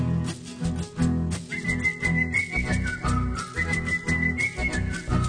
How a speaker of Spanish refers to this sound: Le silbó la cancioncita con toda seguridad. Esto es lo que yo vengo a comprar, oí.